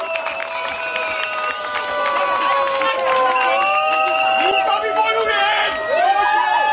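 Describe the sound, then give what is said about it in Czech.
A crowd claps and cheers for itself loudly and steadily for several seconds, with whoops and shrill whistles rising over the dense applause and a few voices shouting in the mix. “Každý si tady zatleskejte za to, jak jste úžasní, že tady jste, že máte tu odvahu.”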